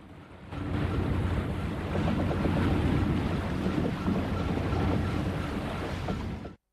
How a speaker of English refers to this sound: The Orpheus slowly moves through the gently undulating water, towing the dinghy in its wake.